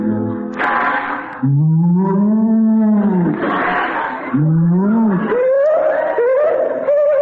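A cow moos loudly, several long, drawn-out lowing calls that rise and fall in pitch, broken up by brief breathy, noisy bursts.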